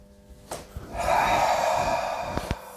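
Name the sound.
deep breath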